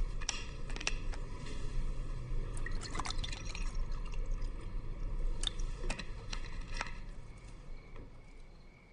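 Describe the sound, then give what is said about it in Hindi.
Water is poured into a glass, a steady watery rush broken by small splashes and drips throughout, with no voices. “नहीं जूस नहीं, मुझे पानी पिला दो बस।”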